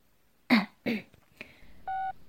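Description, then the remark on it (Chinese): A single short electronic tone from an incoming call on a mobile phone, clear and steady, sounds near the end, after two sharp coughs or throat-clearing sounds and a faint click. No one speaks. “哎，算了，我先接电话看看是什么情况吧。”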